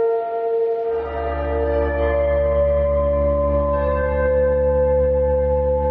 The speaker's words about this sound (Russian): Интересно, что я был в Черновцах в это время, и в Черновцах звук воздушной тревоги начинается с удара колоколом, с таким набатом. Такой немножко церковный.